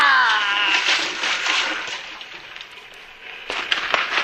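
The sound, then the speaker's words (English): Water splashes and churns as a head is dunked, a short strained vocal sound at the start, then steady thrashing slosh with a fresh burst of splashing near the end. “Now, Shannon, this knife against your throat... Your head in the water”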